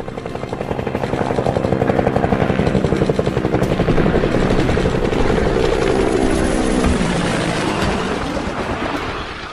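Helicopters approach with a steady, fast rotor chop that swells louder and closer over several seconds, then holds and slowly shifts as they pass nearby. No talking.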